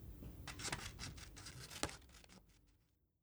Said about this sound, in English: Cut out the shape. Can I please use the scissors?